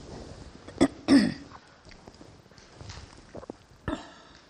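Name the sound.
throat clearing and coughing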